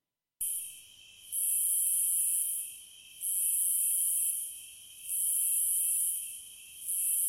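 A dense, high-pitched chorus of crickets chirps steadily, swelling louder in regular waves about every two seconds over a constant shrill drone, with no voices present.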